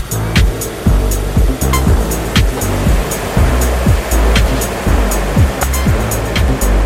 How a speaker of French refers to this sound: je sais pas comment il fait pour conduire le type, il accélère encore. Et bientôt c'est la bretelle d'autoroute.